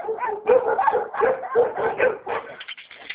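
A dog barks repeatedly in quick, steady succession for a few seconds, the yaps fairly loud with no talking, as if heard over a phone line.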